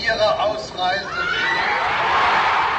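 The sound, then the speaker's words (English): A large crowd in the garden of the West German Embassy in Prague cheers and whoops in the evening, its roar swelling over Hans-Dietrich Genscher's raised voice from the balcony at the start, then holding as a steady, loud wash of shouting for a few seconds. “And at this point his words were drowned by a huge cheer.”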